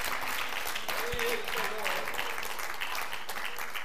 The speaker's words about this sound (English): Give the Lord a hand clap of praise, church. Hallelujah.